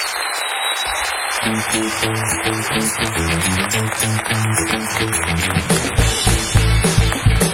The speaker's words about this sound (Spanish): Esto fue Papelitos del Público por Hablando Huevadas. Un fuerte aplauso.